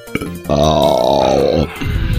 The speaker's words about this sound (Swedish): Jag rapade till lite nätt och så tänkte jag säga hoppsan, det var inte meningen.